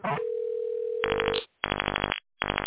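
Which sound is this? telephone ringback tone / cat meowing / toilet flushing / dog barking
telephone ringback tone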